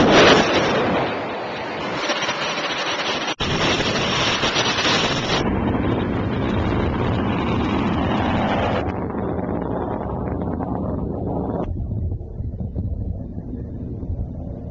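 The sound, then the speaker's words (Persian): A loud, continuous launch roar of a missile, an optimized stage of the Sejjil-2, fired on command: a dense rushing rumble that holds steady for the whole stretch while its hiss gradually dulls in stages as it recedes, with no voices. “به نام نامی حضرت ابا عبدالله الحسین و شهدای خونی دشت کربلا شلیک رو انجام دهید.”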